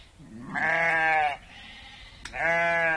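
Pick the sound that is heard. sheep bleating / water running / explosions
sheep bleating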